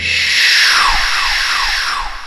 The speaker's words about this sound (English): What is this whooshing sound? Who are you?